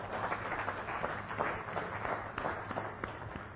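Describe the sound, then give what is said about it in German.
An audience applauds steadily for a few seconds for a woman who has just told a personal story, a dense, even patter of many hands clapping at moderate volume, with no voices over it. “Ich glaube, da dürfen wir einen Applaus geben,”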